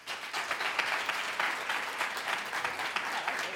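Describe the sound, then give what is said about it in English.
An audience of students claps steadily for several seconds to answer whether they are registered to vote, the dense, even applause filling the space with no voices on top of it. “How many of you students in this audience are registered actively currently to vote? By applause.”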